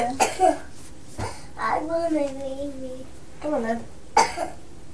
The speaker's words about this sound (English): Are you poorly, …? You got a cough?